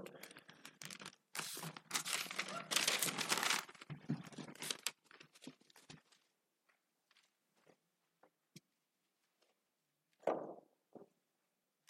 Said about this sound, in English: As long as I still hear pages rustling, I know I still have time.